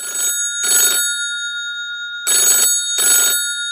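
A telephone ringing tone sounds for an outgoing call, two clear double-ring bursts separated by a pause, loud with no talking.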